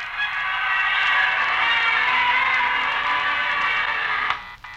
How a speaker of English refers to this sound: Broadcasting from the heart of Times Square, surrounded by thousands of persons waiting to usher in the new year just 3 short hours away. Listen to that crowd.